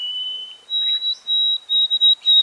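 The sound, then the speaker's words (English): A white-throated sparrow, recorded 60 years after an early-1950s recording, sings its simpler, shorter song with an abbreviated ending: a clear whistled note, a longer higher one, then a few brief clipped whistles that end abruptly. Thin, pure and high-pitched, with no voices. “This bird sings a simpler, shorter song with an abbreviated ending.”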